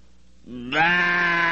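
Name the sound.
imitated sheep bleat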